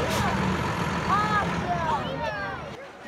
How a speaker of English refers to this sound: Not only is it smelly, it's also starting to rain. But the kids are enthralled as a large truck carrying construction debris dips its cargo onto the top of the landfill pile.